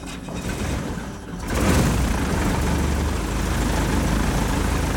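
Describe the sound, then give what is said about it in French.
Both engines of a two-engine aircraft with two men aboard start up in Syria before daybreak: a steady roar that swells louder after a moment as the second engine catches and joins in, then holds a constant, rumbling drone. “Ils s'installent, checklist, mise en route, démarrage des deux moteurs.”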